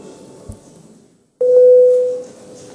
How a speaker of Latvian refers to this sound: Deputāti lūdzu balsojumu, lūdzu zvanu.